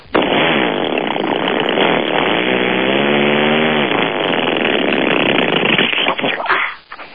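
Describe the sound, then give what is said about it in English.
A voice imitates a Harley motorcycle upshifting and then downshifting, a loud, rough buzzing drone lasting about seven seconds, its pitch rising and dipping midway before sputtering out at the end. “right, how about a Harley upshifting and then downshifting?”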